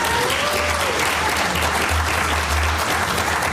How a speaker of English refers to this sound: Earned applause. That's good.